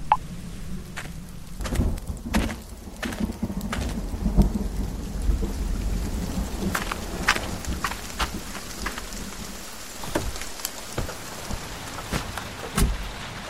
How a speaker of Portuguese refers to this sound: Em poucos minutos, os pingos se tornam um temporal.